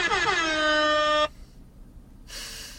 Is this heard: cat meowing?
no